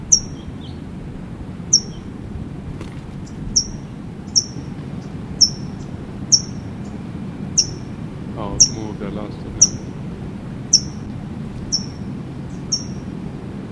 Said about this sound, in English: That's a Tohi chipping.